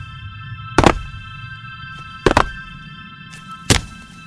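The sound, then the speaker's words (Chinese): Heavy, slow footsteps sounding from behind: three loud, dull thuds spaced over about a second and a half, with two much fainter steps in between, over a low steady rumble and a thin electrical hum. “却听到身后响起了沉重的脚步声，脚步声三声重两声轻，听上去异常的诡异。”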